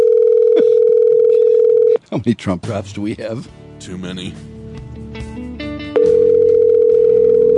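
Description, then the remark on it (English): A telephone line rings out with a steady ringback tone on a call to the Don Lewis tip line, two long rings about four seconds apart going unanswered, while people talk over the silent gap between them. “Now, would that be a disaster if nobody's answering the phone?”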